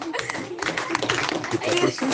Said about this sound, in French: Applaudissez-le.